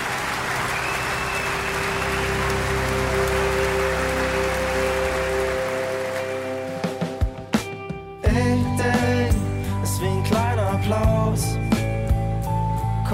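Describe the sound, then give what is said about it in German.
Steady, dense rain patters continuously, its crackling hiss resembling a crowd's applause; partway through, sustained tonal sounds and a few sharp knocks join in over the downpour. “Ich, der Regen ist wie ein tobendes Haus.”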